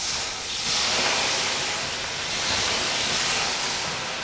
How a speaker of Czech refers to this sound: Kamna teď políváte, z jakého důvodu, jak to funguje? Tím, že já ty kamna poliju, tak se uvolní horká pára, která vlastně stoupá nahoru a určitě všichni víte, jak děláme parní nárazy při samotném rituálu, tak tím já tu horkou páru vlastně ženu